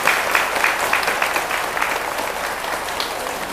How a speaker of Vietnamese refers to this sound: Nếu quý vị thấy là những việc làm lành đó đó là đáng thực hiện và nỗ lực có phương pháp, thì hãy dâng cao một tràng pháo tay thật lớn để cam kết.